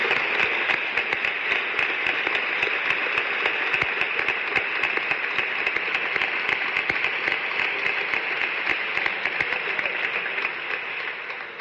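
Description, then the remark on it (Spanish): Sustained audience applause at an event of a peña, a cultural club in the city: a dense crackle of many hands clapping at a steady level for about eleven seconds, with no voices over it and a slight fade at the end. “Que este primer aplauso fuera para su cabello.”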